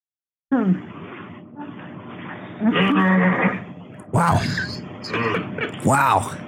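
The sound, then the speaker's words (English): A man's voice imitates a horse whinny, loud, with strained, wavering cries that rise and fall in pitch over several seconds in a few bursts. “Could be the last ever horse whinny guy.”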